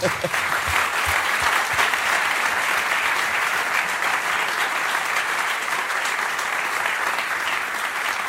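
An audience applauds steadily for several seconds, a dense, even wash of many hands clapping at a constant loudness with no voices standing out.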